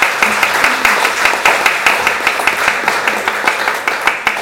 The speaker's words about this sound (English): Well, let's give our helpers a round of applause, shall we? Thank you very much.